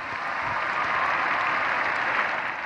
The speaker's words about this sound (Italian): Dopo la recita dell'Angelus, Benedetto XVI ha ricordato che la prossima Domenica delle Palme ricorrerà il 25° anniversario delle Giornate Mondiali della Gioventù, volute da Giovanni Paolo II, cui la piazza ha rivolto un caloroso applauso.